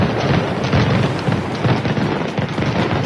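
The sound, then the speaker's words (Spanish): A rapid, continuous barrage of loud firecracker explosions, dense overlapping bangs and crackles filling the whole stretch like a festival string of pyrotechnics, with no voices. “Se potencia este año los disparos de pirotecnia en Gandía organizados por el ayuntamiento.”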